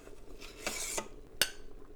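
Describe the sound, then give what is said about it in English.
A metal utensil scrapes across a pot of boiling chana dal, skimming it off, with a soft broad swish followed by a sharp metallic clink against the rim, moderately quiet. “And this is where I'm going to be skimming it off.”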